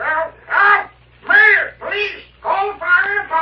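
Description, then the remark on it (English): A parrot squawks loudly, six harsh, raspy calls in quick succession with brief gaps between them and no one talking. “He's the loudest parrot I ever heard.”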